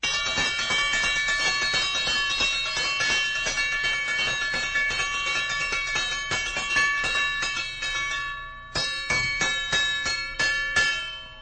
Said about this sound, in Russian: В прошлые годы до развития телефонной связи с помощью колоколов передавались сигналы пожарной тревоги. Пожары – это было страшное событие, поэтому пожарная тревога колокольная была очень важна. Вот как она звучала.